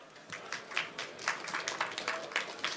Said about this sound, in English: So please give it up, a warm applause.